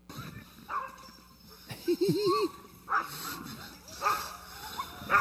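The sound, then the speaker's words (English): Six 8-week-old puppies of the Marvel litter, heard in a played video, yip and whine in short, scattered bursts, with one wavering, drawn-out whimper in the middle, at moderate volume against a faint background hum. “that's a paper-thin excuse for me to show you dogs, is my adorable new puppies”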